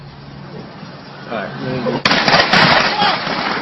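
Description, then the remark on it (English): Muffled background voices give way to a sudden sharp crack, then a rapid, sustained volley of gunfire with overlapping shots echoing loudly outdoors, in daylight in Massachusetts, early in the 7 o'clock hour. “But first, in daylight, a volley of gunfire.”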